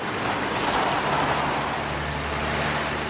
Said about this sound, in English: The truck drives down the road. Natty runs around a bend in the road and the truck speeds past her.